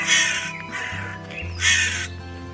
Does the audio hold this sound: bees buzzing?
no